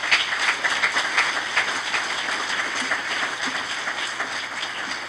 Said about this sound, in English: Let's give a clap offering to the Lord this morning.